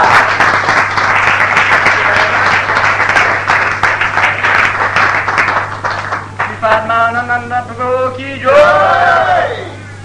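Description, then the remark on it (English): A crowd of devotees, friends and well-wishers breaks into steady, loud applause for those who did the work, a dense wash of many hands clapping that holds for several seconds before thinning out as voices rise over the tail end. “We hope that you will all join me in a round of applause for all of those who did all this great work.”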